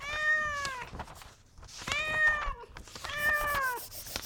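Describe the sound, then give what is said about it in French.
A pet cat at home meows three times, each call long and drawn out with a rising then falling pitch, fairly loud, separated by short pauses with faint background noise. “J'écoute le miaulement de mon chat.”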